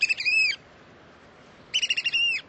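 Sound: american oystercatcher calls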